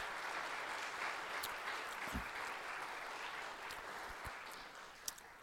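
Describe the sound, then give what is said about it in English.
A church audience claps steadily for several seconds, a dense, continuous patter of many hands with a few sharper individual claps standing out, as people from Westlake, Stars and Comets, and Robert's Nest stand to be prayed for. “We're going to, the same thing as this, you can clap if you want, sure.”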